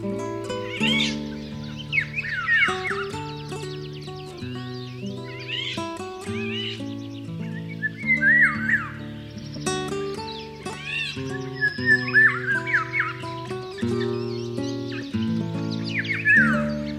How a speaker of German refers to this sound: Das war der Pirol.